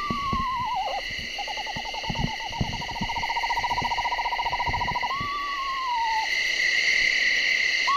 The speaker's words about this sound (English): takes out his iPod and broadcasts the screech owl call.